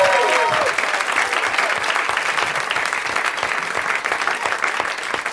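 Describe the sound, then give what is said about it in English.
Sustained audience applause welcoming guest Nelson Franklin, a dense wash of many hands clapping at steady loudness for several seconds, with a brief tonal note at the very start and no clear speech. “And my fourth guest, let's hear it for Nelson Franklin, everybody.”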